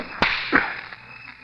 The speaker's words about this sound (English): Nobody ever made me cry but you. Nobody but you ever slapped me.